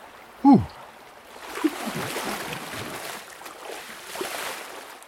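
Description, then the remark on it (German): Shallow, cold residual water of the Kamp river in the Waldviertel rushes and babbles steadily, a continuous fizzing wash that swells slightly at times, with a brief sharp tonal squeak right at the start. “Leider wenig Wasser hier, weil es Restwasser ist, aber dafür ist schon kalt.”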